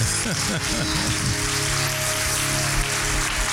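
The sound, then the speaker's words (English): Dense, continuous hand clapping fills the whole stretch at a steady, fairly loud level, with a brief low wavering tone underneath at the start. “Come on, clap your hand.”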